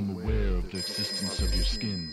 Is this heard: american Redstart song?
no